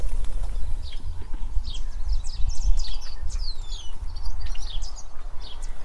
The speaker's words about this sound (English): It has several buildings located on the property, and this time of year is especially vibrant with wildlife, particularly birds, who are stopping off during their various migrations.